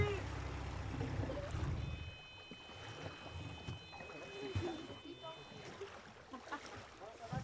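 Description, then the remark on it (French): A sailboat's engine rumbles low and steady for about two seconds, then is switched off abruptly, leaving lapping water, wind and faint voices in the background. “Je vais couper le moteur.”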